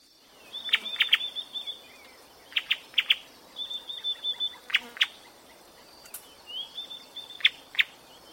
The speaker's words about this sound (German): Wie schön, so viele Vögel.